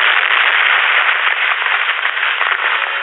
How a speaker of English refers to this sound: the police car topples and falls down, down into the ravine. The explosion illuminates the world below.